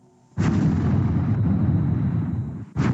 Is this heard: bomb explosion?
yes